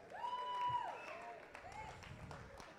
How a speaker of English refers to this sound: Why don't we give the creative team a hand? Come on, give them a huge cheer.